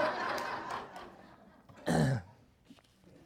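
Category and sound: human body sound, coughing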